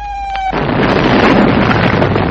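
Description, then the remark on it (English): A bomb explosion: a brief steady tonal whine gives way to a sudden, loud blast that swells into a continuous heavy rumbling roar lasting about two seconds, with no voices. “Those don't sound like ordinary bombs.”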